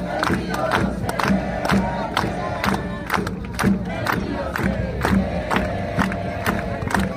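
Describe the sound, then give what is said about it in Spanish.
A crowd chants the slogan «El río no se vende» ("The river is not for sale") in unison from boats and from people greeting them with Argentine flags on arrival at the municipal beach of Paraná, voices rising and falling in a steady repeated rhythm with regular sharp accents, loud and continuous throughout. “En la llegada, desde las embarcaciones y desde la gente que fue a recibir con banderas argentinas, el canto común fue «El río no se vende».”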